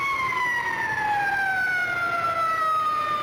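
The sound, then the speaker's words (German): A loud siren wails steadily, its tone sliding slowly downward over a few seconds with a continuous, piercing drone and no voices present. “Wer schreit er? Die Sirene.”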